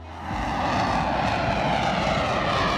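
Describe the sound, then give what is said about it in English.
A loud, steady jet engine roar swells in over the first fraction of a second, then holds as a dense, unbroken rushing blast with no voices. “The howler monkey's maximum decibel level of 140 is similar to that emitted by jet engines, though jet engines sustain their sounds much longer, making them way more dangerous.”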